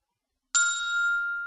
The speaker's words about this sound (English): I pressed the call button. I pressed the call button. I heard the ringtone. I heard the ringtone.